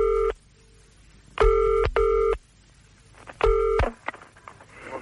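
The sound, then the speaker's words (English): A telephone ringing tone on the line as a call connects, with steady buzzing double-burst rings separated by short pauses, heard clearly and alone without any talking. “Ringing for you.”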